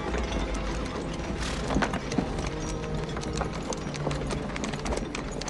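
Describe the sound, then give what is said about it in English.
The hooves of two horses, pulled along by a man, clip-clop steadily in a quarry, with the creaks and rattles of a wooden wagon filled with two massive stone slabs rolling along behind them amid a dense, busy background. “Another man pulls two horses with a wooden wagon in tow.”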